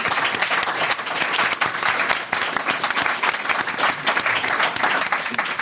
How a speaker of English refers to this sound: And so let's give a big hand of applause for our panel.